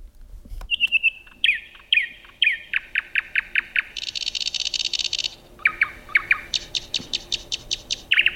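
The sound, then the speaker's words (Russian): A nightingale sings loud, running through varied phrases: repeated sharp whistled notes, rapid buzzy trills, and bright rising chirps in quick rhythmic series, with no voices present. “Но если уж мы так много говорили о соловье, я предлагаю все-таки обратиться опять к моей книге и послушать пение соловья, ну, хотя бы маленький фрагмент, а потом мы найдем его у Бетховена.”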